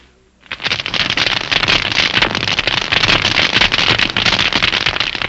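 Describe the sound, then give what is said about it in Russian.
Dense, continuous crackling of millions of tiny snapping shrimp living on the rocky sea floor, picked up underwater by a hydrophone, a loud fizzing mass of countless sharp clicks that starts abruptly after a brief hush and never lets up. “Гидрофон улавливает их громкую трескотню.”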